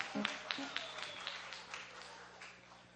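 A round of applause from a group at a service, a steady wash of many hands clapping with a few sharper claps standing out, gradually tapering off over a few seconds.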